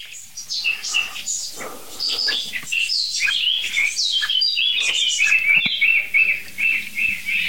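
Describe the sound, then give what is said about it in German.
A blackbird sings steadily in bright, fluting phrases, with a few brief high tit calls slipping in between. The birdsong is continuous, with no talking. “Es nervt im Augenblick wirklich nur die Amsel, wirklich. Und die Meise mal ganz kurz zwischendurch.”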